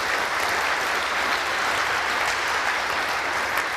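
A crowd claps steadily for several seconds for the Logistics Operations Center team coming on stage, a dense, even wash of applause at constant loudness with no pauses and no voices rising above it.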